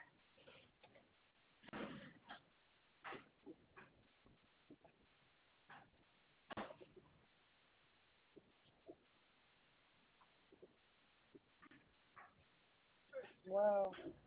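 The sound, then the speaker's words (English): A puppy, just let out of a car at a stop sign and left in the grass, gives scattered, sharp barks and yips at irregular intervals, ending with a louder, higher-pitched whiny yelp, heard amid low background noise. “They did let that dog out the car and keep going. And that's a puppy.”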